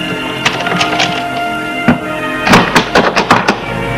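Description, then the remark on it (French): A grandfather pushes an office door shut with a soft thunk followed by a quick series of muffled knocks and clatters from the latch and frame, against a quiet background hum. “Le grand-père referme la porte.”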